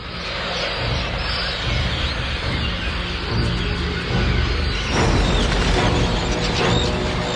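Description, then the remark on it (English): Thousands of birds fly overhead, leaving the city: a dense, continuous rush of fluttering wings with scattered chirps, loud, swelling slightly toward the end. “Thousands of birds fly overhead, leaving the city.”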